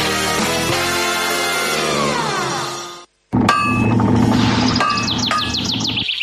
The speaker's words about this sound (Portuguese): O vir o lonxe martillar o ferro, que prazer, e tamén de paso o piar de algún papo rubio.